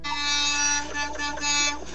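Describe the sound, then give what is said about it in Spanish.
A car horn honks in long, bright, buzzy blasts that run almost continuously for two seconds, with brief dips in between and no talking. It is sounded as a goodbye send-off to a caller, wishing her a successful trip. “Nosotros también tenemos claxon para despedirnos y desearte un exitoso viaje.”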